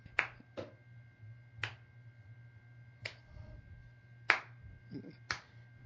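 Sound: slow clap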